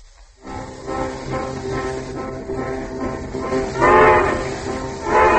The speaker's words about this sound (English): We now find her on the world's fastest westbound train, rapidly approaching the capital of filmdom.